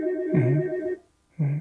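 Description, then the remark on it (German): A telephone rings twice with a bright, electronic warble: a longer ring, a brief pause, then a shorter one. It is fairly loud, with no one speaking. “Wollen wir nochmals ans Telefon gehen?”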